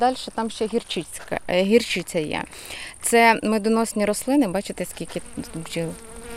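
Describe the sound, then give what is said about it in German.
Bees buzz steadily over bee-pasture plants, sown phacelia and mustard, a dense droning hum that rises and falls as they move around, with a person's voice speaking over the buzzing. “Das sind Bienenweiden. Sie sehen, wie viele Bienen hier sind?”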